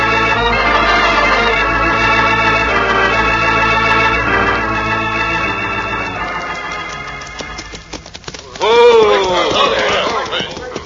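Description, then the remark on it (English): Horse hooves beat a quick, uneven clatter after a swell of orchestral music fades, followed by a loud voice calling out over the galloping. “Come on, get down off that horse, kid.”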